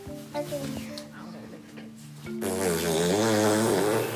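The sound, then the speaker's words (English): A child's voice drones a low tone, then breaks into a loud, sustained sputtering raspberry imitating an animal's fart, a monkey's, for a guessing game, buzzing wetly for nearly two seconds. “make a fart and we have to guess what animal.”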